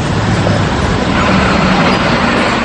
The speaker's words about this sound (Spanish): Automóviles, motocicletas y propagandas son las que más contaminación auditiva generan en Colotlán.